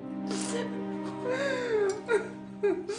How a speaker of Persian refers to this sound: شما که الان دارین گریه میکنین، اگه نسبت به هم مهربون تر بودین و بیشتر با هم حرف میزدین شاید الان قضیه یه جور دیگه بود.